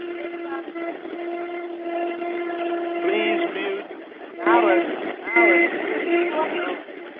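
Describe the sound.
A train rumbles along, heard muffled and tinny through the unmuted phone of a meeting participant riding it, with a long steady horn-like drone and brief squealing bursts near the end, voices faintly mixed in.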